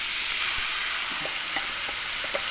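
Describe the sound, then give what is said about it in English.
Steady, loud crackling sizzle of meat, tipped from a bowl into a pan of hot oil, frying, with a few soft clinks and scrapes of a utensil stirring in the pan. No one speaks. “She tips the bowl of meat into a pan of sizzling oil.”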